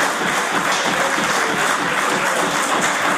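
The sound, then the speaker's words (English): Legislators in the Nova Scotia parliament chamber applaud together, a dense, steady wash of many hands clapping that holds at an even, fairly loud level throughout, with no voices standing out. “They applaud, Mr.”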